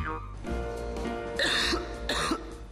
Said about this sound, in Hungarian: A köhögés sosem jön jókor, de legyen szó száraz, irritáló vagy makacs, hurutos köhögésről